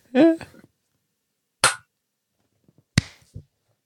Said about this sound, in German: Also, wir müssen zuerst klatschen. Blind klatschen ist. Blind klatschen. Blind klatschen.